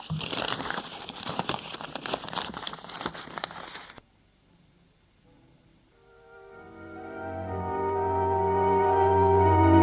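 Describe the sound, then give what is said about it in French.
Busy crinkling and rustling of newspaper being wrapped around an axe for about four seconds, then a brief silence before sustained musical tones swell in and grow louder. “Une fois chez lui, il enveloppe la hache de papier journal.”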